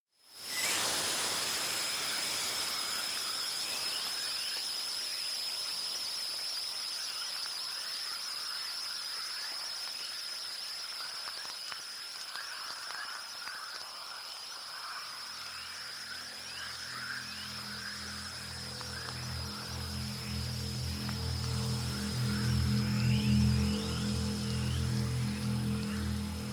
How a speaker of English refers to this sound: that sound that starts off, not what I expected Aurora to sound like as well. It's got like a radio static feeling to it, and then it blends into this orchestral, deep pulsing movement there.